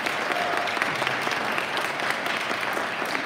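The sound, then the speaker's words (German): Sustained applause from an audience for the children, a dense, steady wash of clapping hands that holds at a fairly loud level throughout with no voices standing out. “Lasst uns unseren Kindern noch mal einen ganz großen Applaus geben.”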